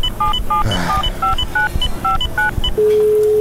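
A telephone number being dialed: a quick series of about a dozen short two-tone keypad beeps in an uneven rhythm, followed by a steady dial or ringing tone, over low rumbling background noise.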